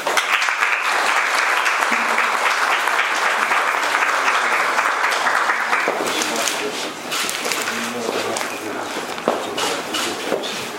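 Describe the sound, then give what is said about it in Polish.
Sustained applause from an audience, dense steady clapping at a loud, even level for about ten seconds, with a slight shift in texture partway through as the clapping thins a little; warm applause of congratulations at a local government event in Czeladź, Poland. “gorące brawa”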